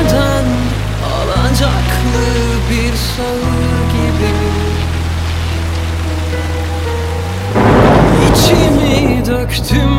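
Steady rain hisses throughout over a low, sustained droning hum, and the downpour swells noticeably louder in the last couple of seconds.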